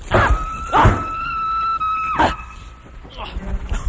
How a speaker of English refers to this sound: What the hell's that? Is there footsteps out there? Couldn't be. Wait a minute, there's footsteps out there. Is there footsteps? That's on the soundtrack.